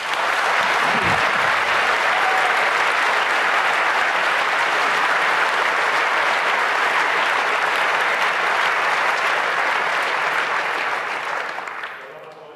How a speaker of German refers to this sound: Wir sagen einfach nochmal Danke. Genau, ein herzliches Dank und großen Applaus